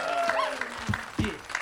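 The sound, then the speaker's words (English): An audience applauding, a steady wash of many hands clapping with a few voices whooping and calling out over it, fairly loud throughout the short burst. “give a round of applause, man.”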